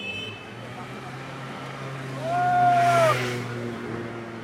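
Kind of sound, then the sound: vehicle, scooter engine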